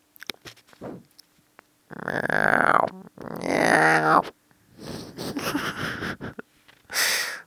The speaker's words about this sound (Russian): Нет, у меня лень открывать глаза. Да, я зевну.